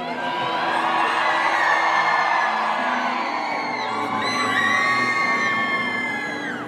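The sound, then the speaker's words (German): A large crowd of fans at a red carpet screams and shrieks continuously at high pitch, loud and dense throughout, with overlapping excited whoops rising and falling but never stopping, as a star signs autographs and poses for selfies. “Dann zog er auch noch die Jacke aus, da hatte das Kreischen dann gar kein Ende mehr.”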